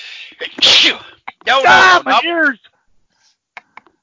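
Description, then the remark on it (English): A loud, exaggerated sneeze: a sharp, breathy burst followed by a drawn-out, strained vocal release, then near silence with a few faint clicks. “No, no, no, not where I sneeze.”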